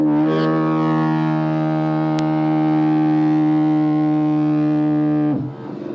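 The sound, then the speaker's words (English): A foghorn, echoing out to sea, sounds one long, loud, steady blast, a deep droning tone rich in buzzy overtones, then cuts off into a short echoing tail. “No, she'll echo, re-echo, re-echo, echo out to sea. But actually, she's not regarded as a particularly good navigational aid, you know.”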